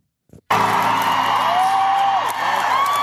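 concert crowd cheering

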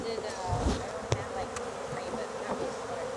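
honeybees buzzing

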